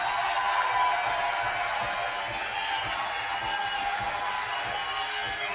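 A crowd at a live band show applauds the band's drummer steadily, a dense wash of clapping mixed with scattered cheers and whoops that holds at an even, fairly loud level for several seconds.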